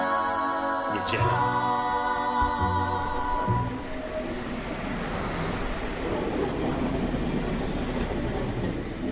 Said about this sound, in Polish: To, co Państwo słyszeli, to właśnie była praca tej lokomotywy, dokładnie praca wentylatorów oporów rozruchowych.